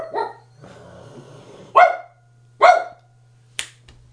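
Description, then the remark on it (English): A dog named Rocco barks three sharp barks spaced out with short pauses, over a steady low hum, followed by a brief click near the end. “He was doing his reenactment of Annoying Dog.”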